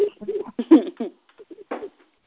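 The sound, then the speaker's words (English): Birds call in a series of short, warbling, coo-like bursts with brief pauses between them, moderately loud, with no clear speech alongside. “Since the birds are in the session, why can't we have a cat?”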